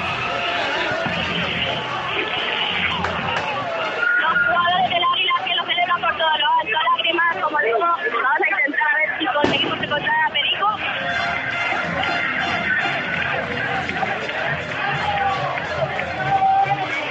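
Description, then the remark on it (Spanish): A dense, roaring crowd of Águilas football fans celebrating on the pitch at Rubial, with overlapping shouts, cheers and chanting voices, loud and continuous throughout, plus bursts of wind noise on the microphone. “La afición del Águilas que salta al terreno de juego de Rubial. Maite, alegría en la plantilla del conjunto aguileño. El sonido de la fiesta.”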